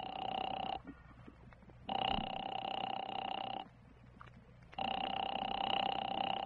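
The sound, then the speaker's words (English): A telephone rings in long, steady electronic bursts, three rings separated by short pauses, with a bright, buzzing tone and no voices. “The phone seemed to ring forever.”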